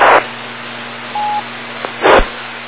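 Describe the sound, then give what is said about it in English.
A brief telephone dialing tone beeps once over a hissy amateur radio net channel as a participant gets on the phone, between bursts of static at the start and end, with a steady low hum and a faint click underneath. “Okay, I think Gordon got on the phone there,”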